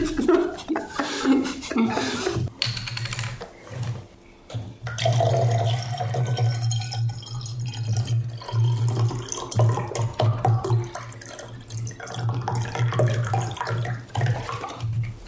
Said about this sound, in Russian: Мне кажется, нужно ставить вставку, где я буду обновлять коктейли, ну и типа мы будем наливать его прямо на этом столе, чтобы звук передавался на микрофон. Типа буль-буль-буль-буль.